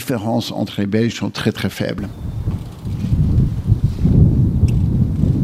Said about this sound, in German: Der Wind bläst heftig auf dem früheren Formel-1-Rennkurs bei Zolder, das gut 45 Kilometer westlich von Maastricht entfernt liegt.